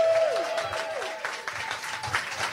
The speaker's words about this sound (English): Let's give him a cheer, everybody.